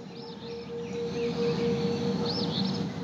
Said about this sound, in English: When you first listen to this, you hear the sirens in the background, but you hear all the birds that are out there because you're in a wooded area. And then towards the end of this, then you hear the thunder coming in.